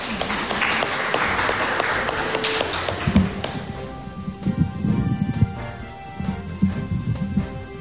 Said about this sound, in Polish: Proszę brawa na zachętę.